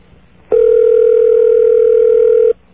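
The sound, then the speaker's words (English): A telephone ringing heard from the caller's end on a call placed live over the radio and left unanswered: one steady, mid-pitched ringback tone held for about two seconds, then cutting off. It is loud and alone, with no voices. “Obviously, these people are not going to answer their phone.”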